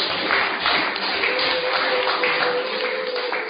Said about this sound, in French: Mesdames, Messieurs, vous avez la possibilité de vous exprimer sur ce sujet en direct dans cette salle, car l'opportunité vous est offerte, et tout cela sous vos applaudissements, bien sûr.